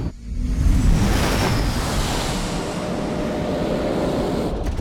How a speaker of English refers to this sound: The aircraft powers down the runway.